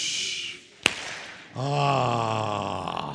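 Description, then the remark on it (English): A group imitates a firecracker with their voices: a hissing swoosh, one sharp clap-like pop, then a sustained, loud collective 'ahh' that rings out together for over a second. “Let's give them a firecracker applause. Ready? Swoosh.”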